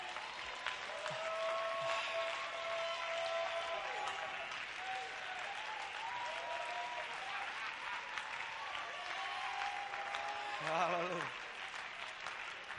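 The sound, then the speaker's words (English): An audience claps their hands in praise of God in a steady, dense wash of applause that carries on unbroken, with scattered voices calling out over it and a brief swell of cheering near the end. “Psalms 47 and 1 says, oh, clap your hands.”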